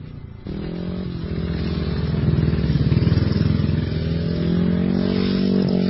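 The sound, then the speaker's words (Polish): Speedway motorcycle engines roar and rev loudly and continuously, a dense buzzing drone that rises and falls in pitch as the bikes accelerate, with no voices; the year's first speedway bikes, heard on a Saturday early afternoon at the Dajan ranch of the Pawlicki family in Zaborowo near Leszno. “Może nie wszyscy uwierzą, to pierwszy tegoroczny warkot motocykli żużlowych dobiegający w sobotnie wczesne popołudnie z rancha Dajana w podleszczyńskim Zaborowie.”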